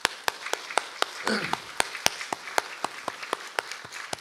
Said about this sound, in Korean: 여러분 어른들 여기 앉아계신데 어른들에서 박수 한번 쳐줘야 됩니다. 우리 자녀들은.